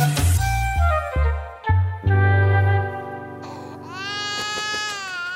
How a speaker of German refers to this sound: Kindergeschrei. Kann denn da nicht mal die Mutter? Wo kommt das denn her? Da hinten, der Kinderwagen. Was ist denn? Na, was schreist du denn? Im Museum musst du doch ruhig sein.